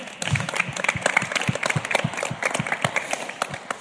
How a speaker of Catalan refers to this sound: Tenim un artista internacional, eh? Podem aplaudir.